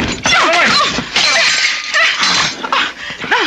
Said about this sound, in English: But finally, you've smashed up this ugly old clock for good. It's dead, just as dead as your precious avocado tree is going to be.